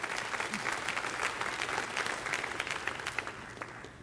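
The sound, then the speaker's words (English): A crowd applauds a song steadily, a dense wash of many hands clapping at an even level for several seconds, easing off slightly toward the end. “Yeah, you should applaud that song.”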